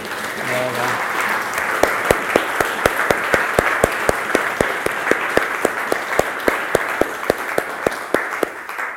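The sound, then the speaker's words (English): An audience applauds steadily for the program's 50 mentors, many of them present, a dense wash of many hands with sharper individual claps standing out in an even rhythm, sustained and fairly loud for the whole stretch. “Yeah, now please clap them.”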